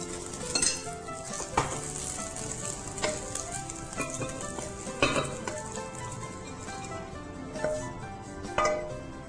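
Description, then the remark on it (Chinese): Pine nut fried rice sizzles steadily in a wok, with sharp metallic scrapes and clanks of a spatula stirring it every second or two. Fairly loud, with no voices. “好，这时候呢，我们就可以起锅了哦。”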